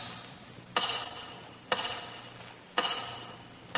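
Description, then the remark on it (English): Slow, heavy ticks of a big tower clock, about one per second, each sharp click ringing out briefly with an echo. No one speaks. “Once again, your eyes wander to the big tower clock.”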